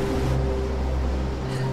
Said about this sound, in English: Water rushes over the falls and mist rises.